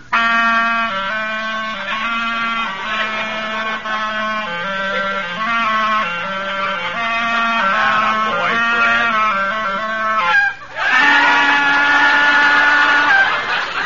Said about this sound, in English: Mr. Rockford, how about listening to our new act? Oh, all right, if you insist. Ready with your clarinet